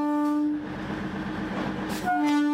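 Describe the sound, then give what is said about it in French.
A loud train horn sounds twice as a small blue train enters the railway station in Dakar, Senegal, at 8:30, a steady blast at the start and another near the end, with the rumble and clatter of the rolling train filling the gap between them. “Ce coup de klaxon indique l'entrée du petit train bleu à la gare ferroviaire de Dakar.”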